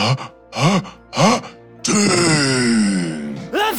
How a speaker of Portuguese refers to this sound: Então, um perfume o morcego cheirou. E com o espirro daqueles, tudo voou.